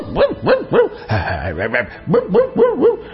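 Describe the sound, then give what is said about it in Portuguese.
A dog barks in two quick bursts: three sharp barks, a brief rougher growling sound, then four more rapid barks, loud and clear with no talking. “Eu é que não, disse o cachorro.”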